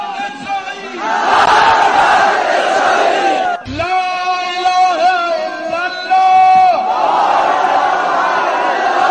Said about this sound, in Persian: همزمان با فرارسیدن آخرین جمعه از ماه مبارک رمضان و روز جهانی قدس، هزاران تن از نمازگزاران روزدار با شرکت در نماز جمعه فریاد مرگ بر اسرائیل سر داده و انزجار خود را از این رژیم غاصب و کودک‌کش اعلام کردند.